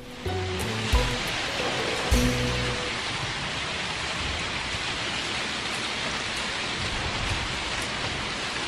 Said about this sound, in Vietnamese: Hôm nay nước mưa tuôn xuống như bắn đạn, làm đồ đạc ướt chèm nhẹp.